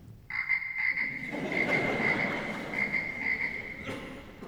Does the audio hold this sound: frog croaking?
yes